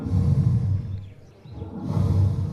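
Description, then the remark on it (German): Heavy, laboured breathing of a dying elephant, the soundtrack of an artistic documentation heard throughout an exhibition on ivory: a deep, rumbling breath, a brief lull, then another long, rasping breath, low-pitched and loud, with no voices. “Es ist das Atmen eines sterbenden Elefanten, das einen auf dem ganzen Rundgang begleitet.”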